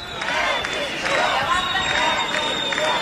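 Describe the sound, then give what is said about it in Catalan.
A large crowd at a rally on Avinguda Lluís Companys chants "Govern dimissió" ("government resign") in unison. The chant is loud, with many voices blending into a continuous rhythmic roar that rises in repeated bursts. “ara el que sentim, com podeu escoltar darrere meu, crits de govern dimissió.”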